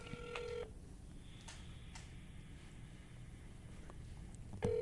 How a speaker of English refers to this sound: Hold on, real quick. I'm gonna call my man.